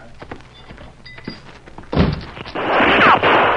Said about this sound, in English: He's firing at us.